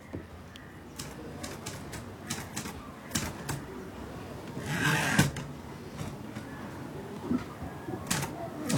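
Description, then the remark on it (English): Clacking keystrokes from a mechanical typewriter, irregular, with a louder cluster of strikes midway, over a low background murmur. “I think even from my younger days, I have lived with this typewriter.”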